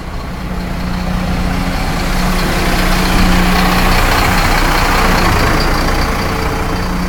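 A steady, dense rumble of traffic on a busy street in Bristol, with heavy engines idling and passing, a continuous low hum filling the street with no pauses.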